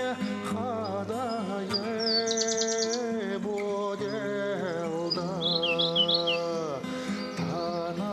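Birds chirp in two short, twittering bursts over a steady backdrop of sustained, mellow tones, like soft music. The chirps are fairly clear but sit lighter than the background. No one speaks.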